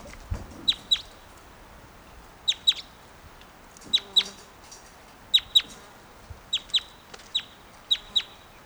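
Chickens cluck in short, sharp, high-pitched pairs, about seven double calls spread unevenly over several seconds, over a faint steady background with no talking.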